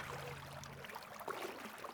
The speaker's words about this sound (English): I loved hearing the sound of the river behind you there. Very relaxing.